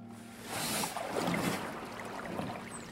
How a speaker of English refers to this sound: Frederick Law Olmsted's beautiful glass boats in the man-made lagoon. And here, one arrives on the placid water suddenly before us.